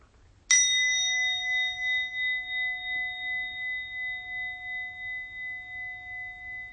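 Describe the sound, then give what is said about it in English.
A single meditation bell is struck once to end a meditation, ringing out clear and resonant, then sustaining a long, slowly pulsing tone that fades gently over several seconds, heard alone without any talking. “And at the sound of the bell, we'll end this meditation.”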